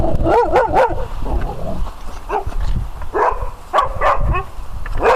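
A real dog barks repeatedly in quick, excited bursts, with yips and whiny, pitch-bending calls between them. It sounds fairly loud, over a busy, noisy background and no clear talking.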